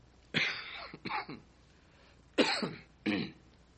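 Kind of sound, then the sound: human body sound, man coughing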